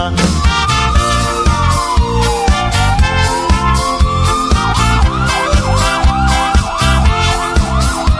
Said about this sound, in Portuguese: O paciente passando mal e a família desesperada. Com a sirene tocando, ele vai pedindo estrada.